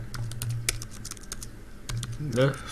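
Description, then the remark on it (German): Quick, irregular clicks of typing on a computer keyboard while entering flight details on the Lufthansa website, fairly clear, with a low hum underneath and a brief murmur of a voice near the end. “Ah ja, okay, muss ein bisschen tippen.”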